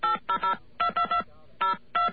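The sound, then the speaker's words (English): Touch-tone dialing of a toll-free 1-800 company phone number: a quick run of about eight sharp, steady beeps in uneven clusters with short gaps between, each a bright two-note tone, with no voices. “Now, we're going to dial that number.”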